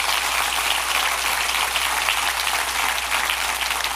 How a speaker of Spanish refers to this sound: Oh, dale un aplauso más fuerte al Rey de Reyes.